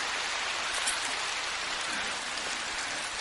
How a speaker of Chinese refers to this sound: 怎么鼓掌声音一点都不响。